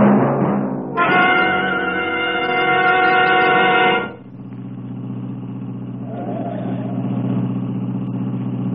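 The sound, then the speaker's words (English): A steady car engine idles in a traffic jam, its low rumble continuous; a brighter, harmonic tone swells over it for a few seconds before the idle settles back alone. “Who can relax in this mess of traffic? There must be a wreck or something up ahead.”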